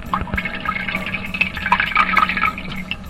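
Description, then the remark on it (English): Watery diarrhea from a person with a nasty stomach virus streams and splashes steadily into toilet water for a few seconds, a continuous trickling gush much like someone urinating, with no voices. “Yeah, that's water coming out of the ass.”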